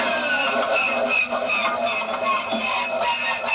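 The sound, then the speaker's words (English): A vintage biplane engine starter, one of eight recordings combined for the Millennium Falcon's hyperdrive sound effect in The Empire Strikes Back, whirs and grinds steadily, a dense mechanical drone with high whining tones layered over it, holding a fairly constant loudness throughout. “One of these sounds was a starter on a vintage biplane.”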